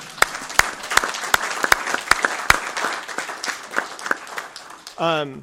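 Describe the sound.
A crowd applauds steadily for several seconds in honour of Rene Vallanwith after a resolution is read on May 7th, 2026, with sharp individual claps standing out from the dense patter, before a voice briefly begins speaking at the end.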